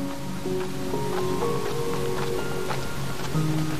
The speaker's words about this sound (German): Die dritte Reitetappe führt euch an einem tosenden Wasserfall vorbei. Schon von Weitem kannst du hören, wie das Wasser in die Tiefe fällt.